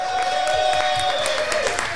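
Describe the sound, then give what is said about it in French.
Dense, steady applause from the audience at a live stage performance fills the whole two seconds, loud and continuous, with a thin sustained tone running over the clapping that dips slightly near the end. “Vous êtes un excellent public, vous pouvez vous applaudir très fort.”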